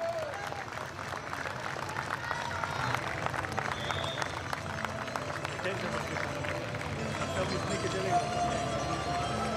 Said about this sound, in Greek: Και αυτή τη στιγμή, εκκίνηση για τα τροχύλατα. Φυσικά το χειροκρότημα του κόσμου.